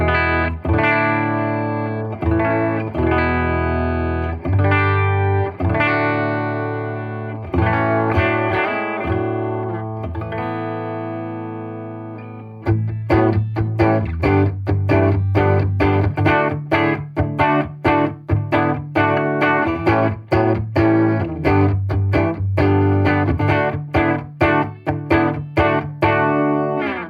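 A clean Epiphone Sheraton 2 Pro semi-hollow electric guitar on its Pro Booker bridge pickup plays alone: ringing sustained chords and notes at first, then a brisk run of rhythmic, sharply picked chords through the second half.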